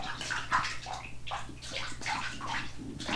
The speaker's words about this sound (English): He's splashing water. See, that was neat, too.